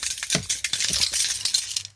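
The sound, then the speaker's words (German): Keys on a ring with a heavy brass pendant jingle and clink, a bright metallic rattle of repeated small jangles over two seconds with no talking. “Ich habe auch einen Schlüsselbund. Und du, ich habe da so einen Messinganhänger. Hörst du das?”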